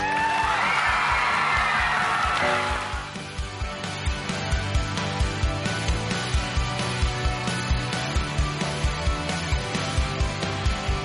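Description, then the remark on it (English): A burst of audience applause and cheering for the introduction of the 2016 USA Football Heart of a Giant Award fills the first few seconds, then cuts off as music with a steady, thumping beat takes over. “Please help me with a round of applause for introducing the Heart of a Giant Award”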